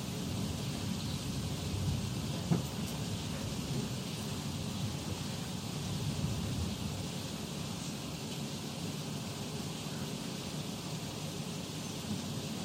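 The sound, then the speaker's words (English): Steady, dense rain hisses without a break, a constant wash of noise with a low rumbling undertone and no voices. “Anyway, raining, so no.”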